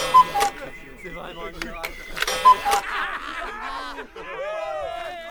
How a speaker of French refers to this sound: L'heure sonne à l'horloge du directeur.